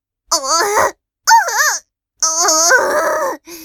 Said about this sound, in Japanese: 今産むから、おとなしくしてろ。お前も説得しろよ。お前の子供だろ。ママが泣きながら力んでるんだから、早く出ろ。